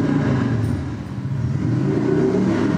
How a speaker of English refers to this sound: The lifelike scene shows a bearded man revving his motorcycle in his garage as an annoyed neighbor looks on.